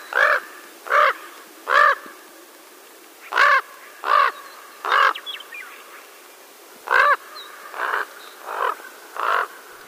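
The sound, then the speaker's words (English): A raven gives a series of throaty, croaking calls, about ten in all, delivered in short bursts of three or four, loud against a quiet background. “Now listen to the throatier sound of the raven.”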